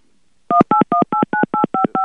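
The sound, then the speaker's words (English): A rapid string of eight telephone touch-tone beeps, each a short, loud dual-pitched tone in an even, quick rhythm, as if a number is being dialed. No one speaks. “Oh, anyway, I just heard a whole bunch of beeps.”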